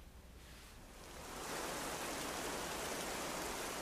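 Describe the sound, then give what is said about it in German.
Heavy rain lashes against a window pane in the evening, a dense, steady hiss that swells louder after the first second and then holds, continuous, with no voices. “Es war bereits Abend geworden und gegen meine Fensterscheibe peitschte der Regen.”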